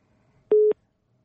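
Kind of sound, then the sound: signal or alarm, telephone busy tone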